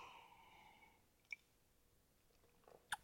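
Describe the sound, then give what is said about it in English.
Someone takes two quiet sips of a beer they dry hopped twice, with oats and dark malts and a hazy-IPA body, one or two blocks from the beach: a soft slurping draw followed by a small click and a brief wet gulp near the end, with no talking. “I'm going to double sip.”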